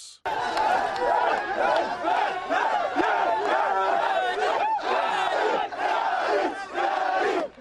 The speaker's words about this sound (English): It's about 9:30 on a warm Sunday night, and a crowd has gathered around the winning team from California, who just barely took first place in the annual soccer tournament organized by the Sudanese American Soccer Federation